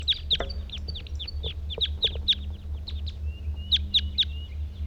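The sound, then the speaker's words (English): Two male birds in a treetop, one calling and one singing: a steady run of sharp, high-pitched chirps and brief song phrases, fairly loud, over a low constant background hum, with no talking. “Two males in the treetop. One's calling, one's singing.”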